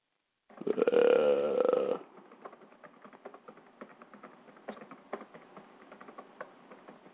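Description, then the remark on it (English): A short, loud, throaty burp-like noise opens, then steady, fairly quiet typing on a laptop keyboard follows: quick, irregular key clicks with occasional louder taps, with no talking. “No, I'm not texting. I'm typing. I heard you typing.”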